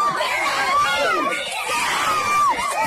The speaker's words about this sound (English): That's all you need. It's 50 seconds of this. This is in the stands. Why is everybody screaming? Don't know.